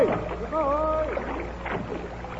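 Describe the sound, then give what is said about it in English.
Oars dip and pull a small boat through water in the mid-Atlantic toward a floating stone ship, with steady sloshing and splashing over a constant wash of noise, and a brief creaky, tonal sound partway through. “A few more strokes there, and we'll board her.”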